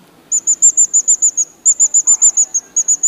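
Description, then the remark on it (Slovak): A mouse-squeak call used in hunting to lure foxes produces rapid, high-pitched squeaks in quick bursts of about eight, separated by short pauses. It is fairly loud, with no talking. “viete zamýškovať, dá sa to nakombinovať. Aj vrešťadlo s myškovačkou.”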